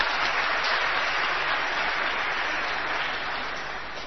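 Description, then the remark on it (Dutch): An audience claps steadily during a church service to welcome a new member, a dense, continuous wash of applause that holds strong and then slowly tapers off toward the end, with no talking. “Dus een applaus.”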